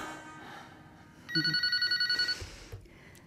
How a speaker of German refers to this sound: Mir blieb fast das Herz stehen, als auf einmal das Telefon anschlug.